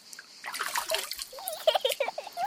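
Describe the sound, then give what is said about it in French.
A stream babbles, its water gurgling and splashing over stones in a steady, uneven burble with little bubbling pops throughout. “Les cigales, l'odeur de lavande, l'eau du ruisseau.”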